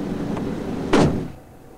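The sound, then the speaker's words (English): A man shuts the hood of a Cherokee SUV with a single solid thud, preceded by a faint knock, then gets back into the car while the running engine rumbles quietly in the background. “shuts the hood and gets back into the car.”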